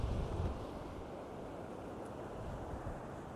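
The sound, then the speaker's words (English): Steady ocean surf rumbles beneath gusting wind, a broad continuous wash of noise with low buffeting at the start, heard outdoors on a sunny, exposed rocky coastline near a headland with a Coast Guard lookout, facing west over the ocean toward Ireland, with no voices. “If I look west, all I can see is just blue ocean with the sun shimmering and reflecting off the water.”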